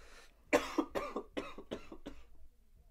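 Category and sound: human body sound, cough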